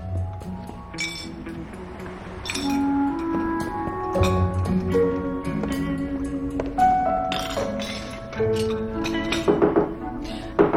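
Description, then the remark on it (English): Dishes and glasses clink and tap repeatedly in an irregular rhythm as a table is cleared in a bakery, bright ringing chinks over a low background hum, with soft thunks as items are set down and gathered. “She sighs and clears the table.”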